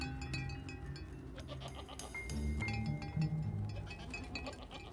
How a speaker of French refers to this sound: Nous avons alors entendu des chèvres marcher à 5 mètres au-dessus de nous.